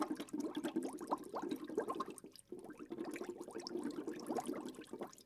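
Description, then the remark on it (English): Washed peaches dropped into scalding hot water for two minutes, with steady bubbling and sloshing that carries on throughout at moderate volume, a brief lull midway, and no voices. “Then we wash the peaches and drop them in scalding hot water for 2 minutes.”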